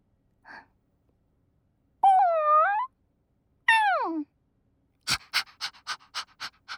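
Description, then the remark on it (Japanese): A person imitates a puppy that loves its master and is being petted: a soft breath, two high whimpering yelps that slide downward, then a quick burst of rhythmic panting, about seven short breaths. “犬の真似しながら君になでなでされるの。”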